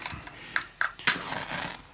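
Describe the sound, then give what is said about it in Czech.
Someone lighting a cigarette in a Sherlock Holmes story: a few sharp, quick clicks or scrapes, the last one strongest, followed by a soft, steady hiss as the light catches. No one speaks. “Smím si zapálit? Prosím, oheň.”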